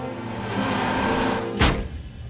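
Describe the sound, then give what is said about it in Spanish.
A bus approaches from the left along a street, its low engine rumble and road noise steady throughout, with a sudden sharp hiss bursting out briefly near the end before the rumble continues. “Un autobús se acerca por su izquierda.”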